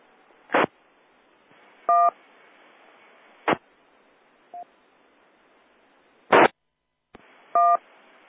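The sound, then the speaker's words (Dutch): Short electronic beep tones from a radio repeater sound over a steady hiss, broken up by sharp bursts of static and brief silent gaps; there's a faint blip in between and no talking. “Ik hoor eerst een pieptoontje en daarna is het weer even stil.”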